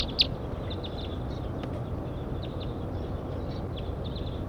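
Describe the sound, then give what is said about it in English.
A very large flock of about 10 birds calls repeatedly while flying overhead, short high chirps scattered across the whole stretch, fairly faint against a steady rumble of background noise, with one sharper call near the start. “Very large flocks flying over now.”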